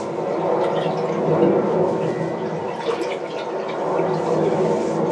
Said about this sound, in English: Well, it sounds like the water moving stones around, maybe on the base of the river.